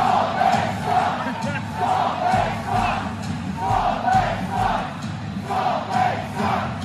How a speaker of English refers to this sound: That is the Coyote fans not appreciating the fact that they should be ticked off.